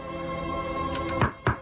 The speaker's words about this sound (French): Mais frappe à la porte d'abord, frappe! Mais patron, on devrait être... Frappe! C'est moi qui commande, non? Frappe à la porte d'abord.